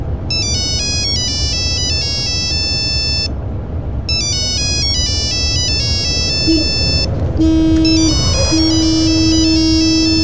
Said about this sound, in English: You're on the motorway coming home from work. The traffic is thick. Someone is calling you.